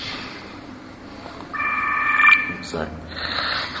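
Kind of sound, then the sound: signal or alarm, mobile phone ringing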